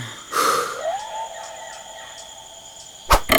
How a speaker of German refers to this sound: Ein Pfeil! Oh Mann, sagt mir, dass das nicht wahr ist! Der hätte uns fast getroffen, der Pfeil.